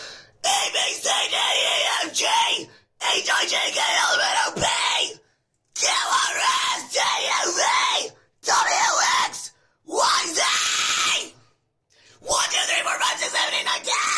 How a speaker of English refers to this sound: Roar, noise warning. I'm gonna scream the alphabet. It doesn't hurt my throat. I am a metal vocalist and scene core singer.